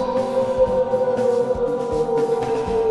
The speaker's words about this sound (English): A wolf howls in the night.